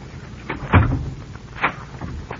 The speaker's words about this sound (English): Why lock the door? So we can be alone.